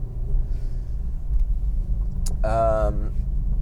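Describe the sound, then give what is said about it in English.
Steady low engine and road rumble from inside a car driving in Vancouver with the rear window defroster on, continuous, with a short high voiced sound rising briefly over it near the end. “We've been driving around with the rear window defroger.”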